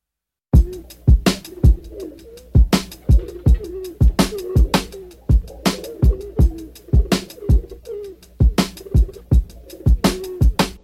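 Pigeons coo in low, warbling murmurs throughout, while sharp taps or flutters punctuate the sound every half second or so. No one speaks.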